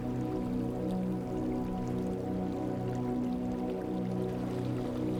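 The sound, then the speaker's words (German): Steady, continuous water sounds with a low, humming undertone, like water washing and lapping around a boat drifting on the open sea at night. It stays at an even, moderate level throughout, with no voices. “Nur der Rhythmus des Wassers belebt die Stille der Nacht.”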